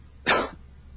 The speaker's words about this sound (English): sorry, I started to cough there.